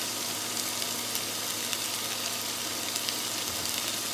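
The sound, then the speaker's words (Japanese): Steady sizzling of thick fried tofu (atsuage) frying in hot olive oil in a pan, a continuous crackly hiss with small pops scattered throughout and no voices. “さあ焼いていく。あ、いい音してますよ、ジュージュー。”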